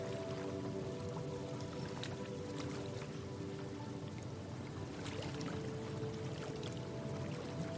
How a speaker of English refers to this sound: Listening gently, listening to those gentle waves lap at the shore.